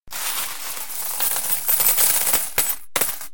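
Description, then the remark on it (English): A dense cascade of metallic clinks as handfuls of gold coins run through fingers and jingle together, bright, continuous for a few seconds with a couple of sharper clatters near the end. “They picked up handfuls of them and let them run through their fingers. The coins made a wonderful noise.”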